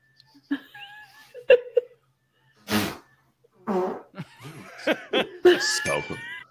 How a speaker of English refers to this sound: Hey babe. Hey baby. Guess my fart.